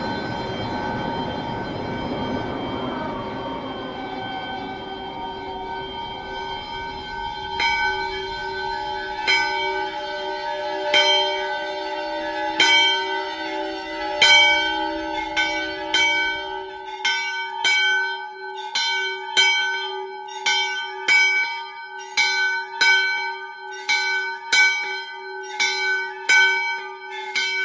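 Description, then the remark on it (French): A storm bell rings out in steady, repeated strokes, bright, its long overtones overlapping; a low rumbling murmur fills the opening seconds before the clanging settles into a regular beat. The bell rings in a granite stone storm-bell tower bearing the date 1779, and is being filmed as it rings. “Cloche de tourmente.”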